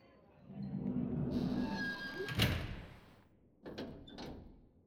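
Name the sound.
sliding door being closed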